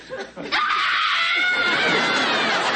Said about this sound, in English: What are you screaming about? I don't know. I've never been glued to a table before.